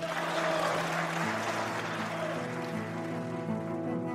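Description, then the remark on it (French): Steady, dense applause from the left side of parliament while the right side stays silent, filling the whole stretch without pause at an even volume, with a faint low tonal hum running underneath. “La gauche applaudit et la droite lui renvoie un silence glacé.”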